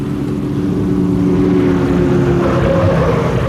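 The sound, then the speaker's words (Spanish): A car engine drones loudly and steadily as it speeds through empty streets near the docks, a continuous low humming roar that holds for the whole stretch with no voices. “Un auto se desliza veloz por las solitarias calles cercanas a los muelles.”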